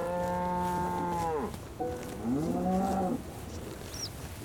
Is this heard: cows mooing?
yes